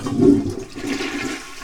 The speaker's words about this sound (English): So, I know this sounds weird, but let's try flushing the toilet to see if that will get the cat to come in here.